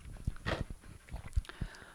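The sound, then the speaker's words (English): A dog plays with its ball: irregular thumps, wet mouthing and a brief louder scuffle, scattered unevenly over a couple of seconds with no one talking. “I don't know what that sound was, but ew. He has his ball.”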